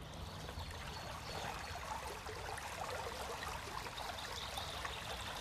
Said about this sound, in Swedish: Inte så långt ifrån vårt hus finns en bäck.